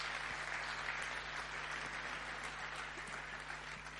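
Sustained audience applause for the mothers, a dense, steady wash of many hands clapping that holds at an even level for several seconds, with no voices standing out.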